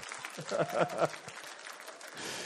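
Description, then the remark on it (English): An audience bursts into steady applause for the speaker's wife, a dense crackle of many hands clapping, with a few voices calling out briefly near the start before the clapping carries on at an even level. “Can we give my wife a round of applause for carrying my weakness?”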